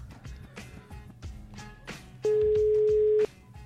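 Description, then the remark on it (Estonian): A single steady telephone ringing tone sounds loudly for about a second, heard over a busy, murmuring background while radio hosts place a call to a listener to wish her a happy birthday. “Vaatame, kas ta meie telefoniga vastu võtab.”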